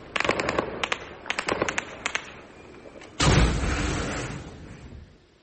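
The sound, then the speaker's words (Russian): Several rapid bursts of gunfire crack out in quick clusters, followed by a sudden loud blast that rumbles and slowly fades over a couple of seconds. No one speaks. “Звуки выстрелов, возможно, в попытке сбить беспилотники.”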